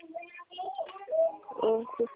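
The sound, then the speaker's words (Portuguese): A baby cries and fusses in short, wavering high-pitched wails that come in a few uneven bursts over a couple of seconds, moderately loud. “O que é, você pode me ligar daqui a alguns minutos com o meu bebê chorando?”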